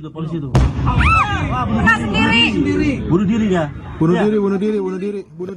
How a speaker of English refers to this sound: Just a little sound here of those explosions and gunfire hitting the Indonesian capital of Jakarta on Thursday. Officials said coordinated by Islamic State-linked terrorists.